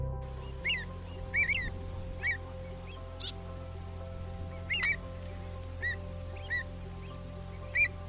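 Short, bright calls of an avocet, a pigeon-sized wading bird, in Lithuania, repeat every second or so, some in quick doubled notes, over a steady low rumbling hum. No one speaks.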